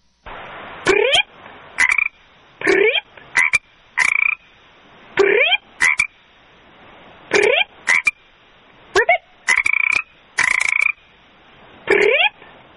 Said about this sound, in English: She's putting together a frog dictionary, and she sent us this tape of herself seemingly communicating with a frog.